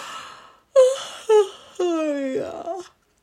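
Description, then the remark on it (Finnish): A voice imitates a huge yawn: a drawn-out, moaning vocal sound in three pushes, each sliding downward in pitch, the last one longest and fading into a breathy sigh. “Ollilta pääsi ihan valtava haukotus.”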